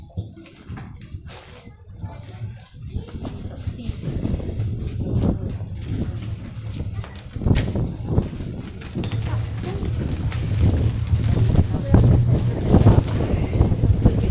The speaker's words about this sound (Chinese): 不好意思，今天风比较大，我们快要唱大风歌。